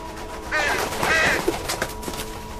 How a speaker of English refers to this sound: Crow.